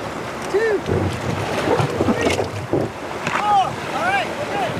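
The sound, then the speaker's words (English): Water sloshes and churns as a red raft is pushed into the cold water of the Lehigh River at a state park by five people launching it, steady rushing noise and wind buffeting the microphone, with people's voices calling out faintly in the background. “warns them they might get wet as they push the raft into the cold water.”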